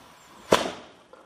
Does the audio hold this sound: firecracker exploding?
yes